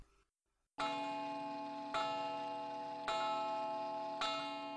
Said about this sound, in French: Pendant qu'elle combinait un moyen d'exciter la curiosité de Rosalie, une horloge sonna minuit.